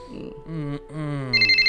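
A telephone rings in quick, evenly spaced high-pitched pulses toward the end, after a low, wavering voice-like groan fills the first part.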